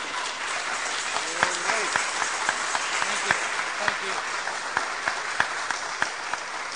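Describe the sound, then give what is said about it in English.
An audience breaks into steady applause for an activist, a dense wash of clapping with sharper individual claps popping out irregularly, holding at an even level for several seconds with faint voices mixed in. “So I'd like to give a round of applause to a real warrior for this cause.”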